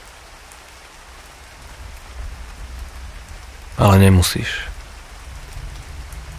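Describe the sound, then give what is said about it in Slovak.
Steady rain falls throughout as a soft, continuous hiss, with a calm voice briefly speaking over it near the middle. “Počúvať príjemné zvuky dažďa, ktoré same od seba uvoľnia tvoju myseľ.”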